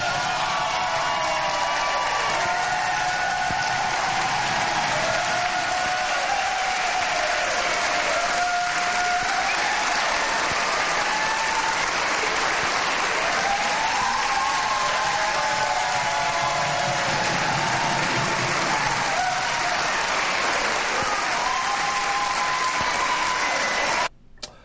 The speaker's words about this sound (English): That was the big applause line of the night, and 24 hours later, that statement is no longer operative. Not a good moment. No, and I think the applause was genuine, right?